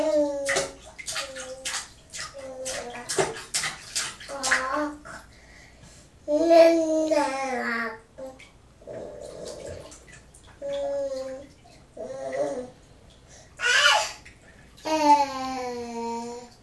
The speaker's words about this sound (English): Ooh, that's a water splash! Oh, wow!